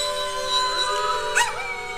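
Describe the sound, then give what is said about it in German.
Two dogs howl along with a person howling, in long, wavering, wolf-like tones that overlap and rise and fall, sustained across the whole moment with a brief louder swell near the end. “zwei der drei Hunde, nämlich einer von meinen und deren Hund, die, wenn man heult als Mensch, dann heulen die mit.”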